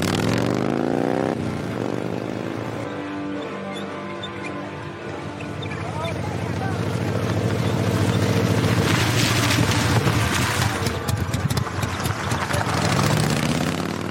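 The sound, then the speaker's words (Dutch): A motorcycle with a sidecar runs steadily, its throaty engine rumble rising in pitch at the start and swelling louder toward the middle before settling into a continuous drone. “Ze krijgt het voor elkaar dat ze samen met een motor met zijspan kan meerijden.”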